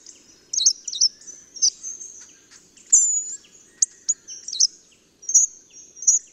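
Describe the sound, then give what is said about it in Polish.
A calmly feeding hawfinch sings a loose, halting song of high thin whistles and sharp clicks, delivered in irregular bursts with pauses between, clear against a quiet background. “Nadaje to piosence grubodzioba dość luźny, niezdecydowany i raczej niemrawy charakter, przywodzący na myśl piosenkę Gila.”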